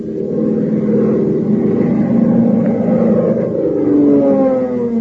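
The propeller engine of Hop Harrigan's plane roars steadily for the whole stretch, a loud, low, throbbing drone whose pitch climbs slightly toward the end. No one speaks over it.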